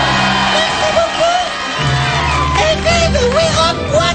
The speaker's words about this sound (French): Mais bon, on l'applaudit. Merci.